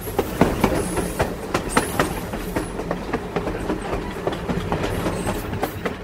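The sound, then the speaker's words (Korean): A train rolls steadily along the tracks toward Manchuria, crossing the Yalu River in March 1919, its wheels clattering in an irregular clickety-clack rhythm over a continuous low rumble, heard as if from inside a carriage, with no voices. “1919년 3월 압록강을 넘어 만주를 향해 달리는 기차 안.”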